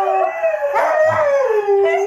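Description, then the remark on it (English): Three Huskies howl together in long, wavering, high-pitched tones that rise and fall, with a few brief yips mixed in, loud and steady with no talking. “The good thing is, though, one of those actual dogs got a job being the audio engineer at the Tampa Bay game.”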